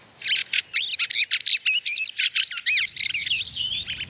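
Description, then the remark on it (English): Fieldfare calls in the Scottish countryside in winter: a lively stream of chattering, squeaky bird notes tumbling rapidly one after another for several seconds, with no voices and only a faint low rumble in the background. “The field fare, a welcome touch of colour, sound and romance in the Scottish countryside in winter.”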